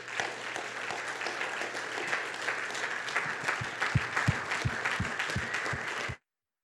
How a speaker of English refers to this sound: But let's give your pastor a mighty round of applause for the man he is.